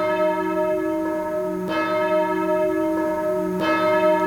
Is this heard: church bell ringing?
yes